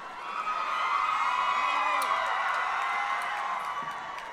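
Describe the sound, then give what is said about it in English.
A crowd out in a spot miles from anyone who could hear them hoots, hollers and cheers in a steady, dense roar of many voices, with a few high whooping calls rising above the din. “You can hoot and holler and scream.”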